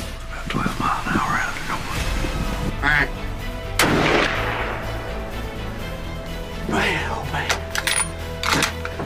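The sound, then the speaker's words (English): A single loud rifle shot cracks out amid outdoor rustling and handling noise, its blast echoing briefly before the scene settles back to low background sounds. A hunter shoots a big 10 on October 25th at 4:30 in the afternoon. “Oh my gosh, guys, I just shot that big 10.”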